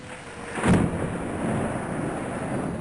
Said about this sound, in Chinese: 一场可怕的暴风雨降临了，明卡小心翼翼地扒着鸡舍的窗户往外看，被外面的情景吓坏了。窗外狂风肆虐，树木来回地摇晃，好多树枝都折断了。在电闪雷鸣中，大大的雨点儿落在了鸡舍的屋顶上。